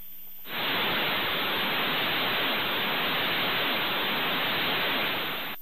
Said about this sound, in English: Well, we actually have a recording of a transmission that was detected by the Arecibo telescope in Puerto Rico. This is a typical transmission that has been converted to sound.